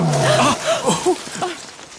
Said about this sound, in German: das war doch wieder der Tiger. Sagtest du nicht, dass er weit weg ist und keine Gefahr für uns bedeutet? Aber er war viel lauter als vorher. Und wenn das Brüllen lauter wird, bedeutet das doch, dass das Tier näher gekommen ist, oder?